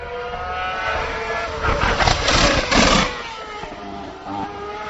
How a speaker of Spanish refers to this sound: Es decir, un petardeo, un sonoro petardeo que ya había llamado la atención a muchos aficionados y que os puedo explicar hoy. Ese petardeo suena de la siguiente manera. Vamos a escuchar el coche de Vettel llegando a la tercera curva de Hungaroring.